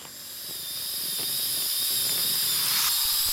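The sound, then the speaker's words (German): A small motorized bone saw, taken up by Dr. Ronson to saw into nerve tissue, whines steadily, with thin high-pitched tones over a hissing buzz. It grows gradually louder across a few seconds and runs alone, without any voices. “Als wäre dies ein lang erwartetes Signal, nahm Dr. Ronson daraufhin eine kleine motorisierte Knochensäge zur Hand und sägte ins Nervengewebe.”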